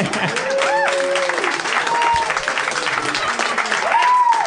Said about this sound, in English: A round of applause.